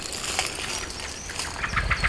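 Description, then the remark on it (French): A blackbird, startled from a small path in a wood, gives a rapid run of sharp, chattering alarm calls while hidden in shrubs and broadleaf trees, over rustling and a brief flutter of wings, the calls growing denser toward the end. “Une petite sente qui surprend un merle.”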